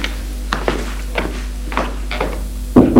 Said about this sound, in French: Elle va frapper à une porte.